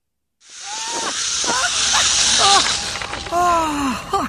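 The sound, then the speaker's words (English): A steady, rushing whizz of someone speeding along a zip wire, the hiss swelling for a few seconds while a voice whoops and cries out with rising and falling pitch over it. “I didn't know zip wiring was so cool.”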